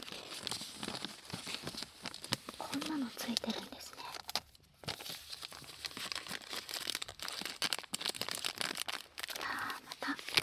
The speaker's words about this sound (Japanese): というわけで持ってまいりました、新品でございます。開けたよ。まずはラケット、テープが貼ってある。新品の膜を破る音。